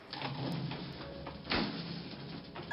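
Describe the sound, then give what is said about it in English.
Elevator doors slide open on floor 15 with a rumble and a steady whooshing hum, punctuated by a soft thud partway through as they reach their stop. Fairly loud, with no voices. “Eventually, the elevator made its way up to floor 15, and the doors opened for her.”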